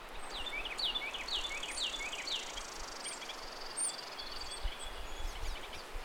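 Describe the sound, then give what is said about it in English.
Several birds chirp and call outdoors, bright repeated notes overlapping, with a steady background hum of wind and no one speaking. “I love birds because listening to them is not only a delight, it can also tell you a lot about where you are and what time of year it is.”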